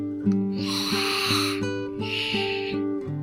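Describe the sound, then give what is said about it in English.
Two drawn-out, breathy snores, each about a second long, rasp over a steady musical bed with a brief pause between them. “began to snore.”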